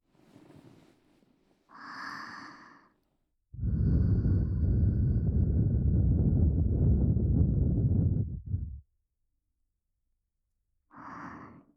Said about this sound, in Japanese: ご主人様はこんな風に突然耳に吐息を吹きかけられるいたずらをされたことがありますか。そのいたずらでゾクゾクって背筋を震わせたことはありますか。